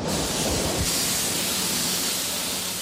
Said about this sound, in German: Jetzt schießt glühendes Carbid wie Lava aus dem Ofen, zischt über den Boden.